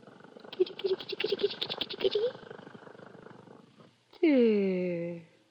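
kitten purring

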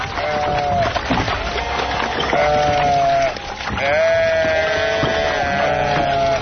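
sheep bleating

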